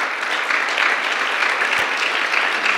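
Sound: audience clapping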